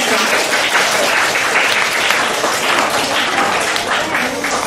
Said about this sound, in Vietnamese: À, chúng ta cho một tràng pháo tay.